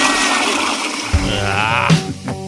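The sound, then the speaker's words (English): A toilet flushes in one loud, rushing burst of water that swirls and gurgles before draining away, clear with no talking. “Flush Black Friday.”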